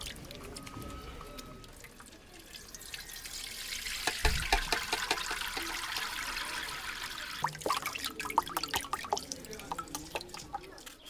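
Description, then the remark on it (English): Continuous wet squishing and dripping as ground mangara paste is kneaded as finely as possible and worked into water to dissolve it, with irregular splashy clicks and a soft thump partway through. “It is then kneaded as finely as possible, as it must be dissolved in water.”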